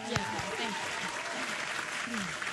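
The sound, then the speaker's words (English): A canned applause sound effect played from an applause button: dense, steady clapping and crowd noise filling the whole clip at an even level, with a few bits of a voice rising briefly underneath. “Where's my applaud button?”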